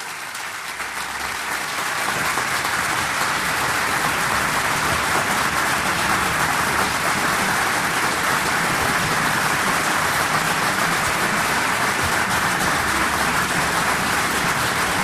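Sustained applause from a crowd in the briefing room of the President of the United States, a dense, steady patter of many hands clapping that swells in over the first two seconds and then holds at an even, loud level throughout.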